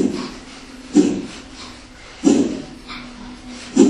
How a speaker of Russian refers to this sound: Слышите, да, как я дышу?